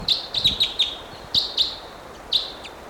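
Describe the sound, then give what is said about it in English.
A wild bird calls in a rapid series of high, thin chirps, about eight short notes in uneven bursts over steady background hiss, with no talking. “Still pointing at these wild birds.”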